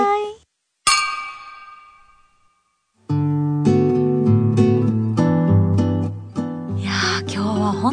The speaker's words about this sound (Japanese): じゃあ今日はみんなハイボールで乾杯しましょう、はい、お待たせしました、 はい、ありがとうございます。 ありがとうございます。 じゃあもう早速乾杯で、 はい、 じゃあ今日お疲れ様でした。乾杯。 お疲れ様でした。乾杯。